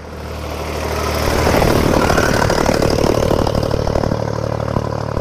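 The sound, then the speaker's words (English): A tractor's heavy diesel engine rumbles and clatters as it approaches and passes by, swelling in loudness then holding steady with a rattling, droning tone. “And another tractor going by.”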